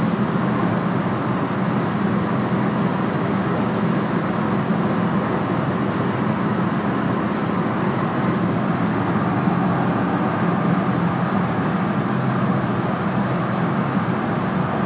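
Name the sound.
car interior road noise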